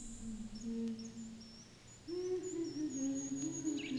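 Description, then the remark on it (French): A bird with grey plumage and a black-spotted head calls with low, drawn-out hooting tones, one long note followed by a wavering one, while faint high chirps and whistles drift in the background of a quiet outdoor setting. “C'est l'oiseau qu'il cherche.”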